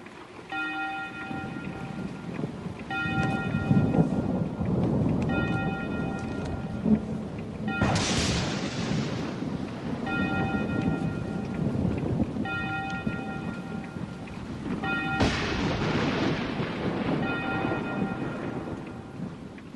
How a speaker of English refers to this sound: And then on the 12th ring, it's over. The storm just kind of fades away. How timely, like right at midnight.